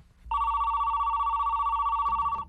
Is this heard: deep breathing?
no